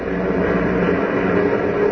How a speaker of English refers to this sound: As we continue now, a huge clipper plane is thundering over the Atlantic toward Lisbon, Portugal.